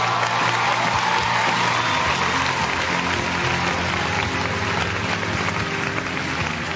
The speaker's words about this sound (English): Thank you for that well-received round of applause. I appreciate it quite a bit.